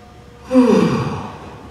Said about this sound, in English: Can everybody yawn? Some of you are tempted because you know how yawns are so contagious.